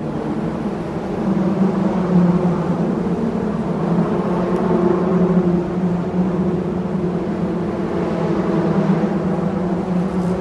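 A steady, droning hum of cars rolling over the metal roadbed of the Brooklyn Bridge, recorded underneath the bridge, a buzzing, beelike tone that swells slightly and holds for the whole stretch with no voices.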